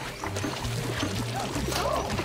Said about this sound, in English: In the dining area, the scooter lady from the mall holds a bowl under a pudding dispenser. It sprays everywhere.